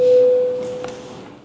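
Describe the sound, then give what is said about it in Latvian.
A steady electronic bell tone, a parliamentary voting bell rung before a vote on a draft amendment to the packaging law in first reading, sounds at a single pitch, loud for about half a second, then carries on much fainter over a soft background hum. “Lūdzu, zvanu, balsosim par likuma projekta grozījums iepakojuma likuma atbalstīšanu pirmajā lasījumā.”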